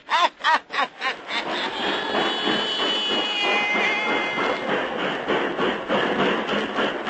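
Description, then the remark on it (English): A steam train chuffs in a few strong bursts, then settles into a loud, continuous hiss and rumble with a faint high whine, outside a little railway depot in Louisiana. “And outside a little railway depot there begins our yarn about Graveyard Mansion.”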